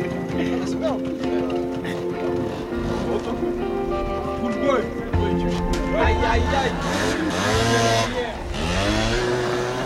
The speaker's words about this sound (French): On est là, on fait de la moto, un bon dimanche qui fait beau. Voilà, c'est un sport hein, aussi la moto. Dès que les beaux jours reviennent, les engins ressortent. Tout ça, c'est un circuit.